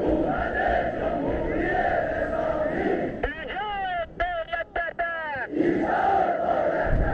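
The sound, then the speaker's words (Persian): A massive crowd marching in Tehran during Tasua and Ashura of 1357 (1978) roars and chants in a dense, continuous wall of voices; midway, the roar briefly drops and a few loud, sustained unison shouts ring out before the full crowd swells back. “راهپیمایی عظیم مردم تهران در تاسوعا و عاشورای 57 رفراندومی است که نشان می دهد شاه شانسی برای بقا ندارد.”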